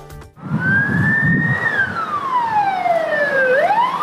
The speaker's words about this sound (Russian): Заслышав сигнал сирены, далеко не все водители в Краматорске предоставляют преимущество спецтранспорту. Патрульные говорят, что некоторые автолюбители игнорируют проблесковые маячки и сирены не только пожарных машин и карет скорой помощи.